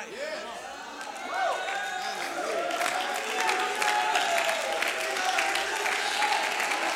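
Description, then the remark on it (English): A church audience claps steadily in a dense, continuous patter, with overlapping voices shouting and calling out to God in praise over the applause, the noise swelling after the first second and staying loud throughout. “Some of you are still clapping your hands with your mouth closed.”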